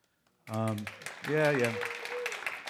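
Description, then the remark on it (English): An audience claps in a dense, steady patter, mixed with loud whoops and cheering voices rising over it, after a brief quiet start, in response to hearing that someone is a recovering alcoholic with nine years sober. “I'm old enough to know now that when I say that and you guys clap, you're really clapping for my friends and family that don't have to deal with alcoholic me.”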